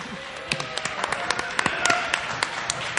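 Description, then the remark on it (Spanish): A short burst of scattered clapping, a small group applauding with irregular sharp claps over a steady background murmur, moderately loud for about three seconds. “¡Un aplauso para mí, ¿no?”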